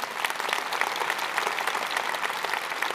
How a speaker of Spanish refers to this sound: Hoy estoy aplaudiendo a los voluntarios de esta iglesia porque no sería posible Lakewood sin ustedes. Los saludo y los aplaudo.